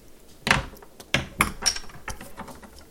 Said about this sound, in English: All right, everybody got their bottle openers? Let's open this bad boy up.